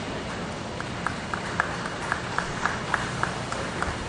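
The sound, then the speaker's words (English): An audience at a UAW Local 774 gathering of the Tonawanda engine team applauds in a steady, hissing wash of clapping, with a few sharper claps popping out at a regular rhythm. Moderately loud throughout, with no voices. “All right, great round of applause.”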